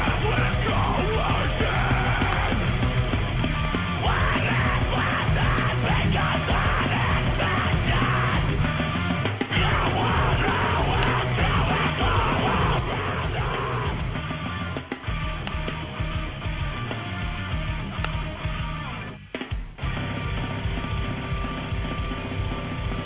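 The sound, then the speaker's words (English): Loud, dense hardcore screamo music played on Dick Burns' radio program fills the whole stretch, with harsh screamed vocals over distorted guitars and pounding drums, sounding slightly muffled and band-limited, heard while calling into the radio program. “He's playing some hardcore screamo stuff right now.”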